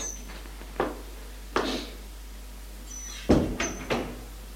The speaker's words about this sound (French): Il monte à l'étage par un petit escalier de bois. Le père frappe à une petite porte et entre.